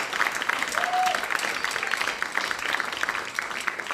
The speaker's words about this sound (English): Let's give everybody on our panel a nice round of applause.